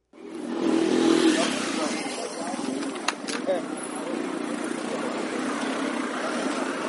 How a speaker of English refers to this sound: After a week of mostly empty streets, Kenya's capital city is coming back to normal. Traffic is flowing and people are going back to work.